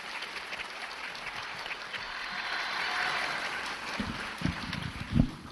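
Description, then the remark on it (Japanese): An audience claps steadily, a dense wash of many hands that holds at an even level, thinning toward the end as a few low thumps and bumps break through. The applause greets an author and radio host as she is introduced to give a lecture. “温かいご声援ありがとうございます。”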